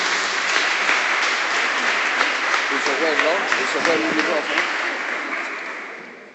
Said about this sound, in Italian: E noi Ti ringraziamo, Signore. Ti lodiamo e Ti benediciamo e accogliamo il parlato con l'applauso.